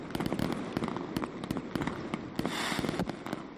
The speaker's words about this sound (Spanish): Así sonaba anoche su Nit del Foc en Burriana, con más de 1 kilómetro de traca, más castillo de fuegos artificiales.